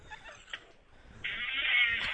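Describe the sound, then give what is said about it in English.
A squeaky, reedy fart that sounds like a mallard duck call: a short wavering squeal, a brief pause, then a louder sustained nasal honk near the end. No voices. “It sounds like a mallard whistle.”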